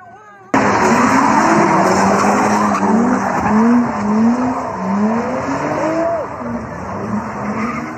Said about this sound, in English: Vehicles turn and screech through intersections, spinning dangerously close to cheering crowds.